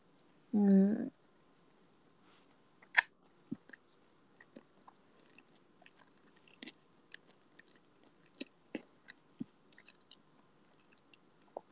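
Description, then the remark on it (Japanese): Eating sounds: a short burst of voice at the start, then soft wet chewing and occasional slurps and clicks scattered irregularly through the quiet, as someone eats store-bought beef salt ramen at home. “俺牛塩ラーメン。”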